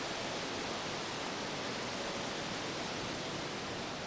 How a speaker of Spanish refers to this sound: vamos a escuchar, vamos a escuchar rugir al mar.